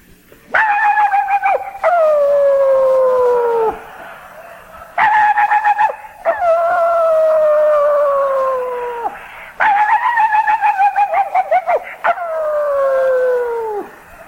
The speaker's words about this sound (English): They get to moving, they think the moon's moving. And they get all excited and they bay the moon and bark at it all night long. You've heard them.